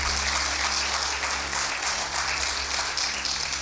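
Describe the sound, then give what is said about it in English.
A church audience claps steadily before a sermon, a dense, sustained wash of many hands applauding at a fairly loud level, with a low steady hum underneath and no speech. “Good place to clap and receive the word of the Lord.”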